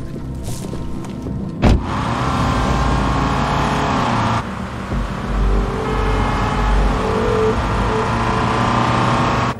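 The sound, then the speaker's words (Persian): Several car engines, from two Mercedes jeeps, a Mustang and an Audi convertible, rumble and rev steadily, with a sharp knock near the start, as the vehicles pull away together; no one talks. “ماشینای با من دارن حرکت میکنه.”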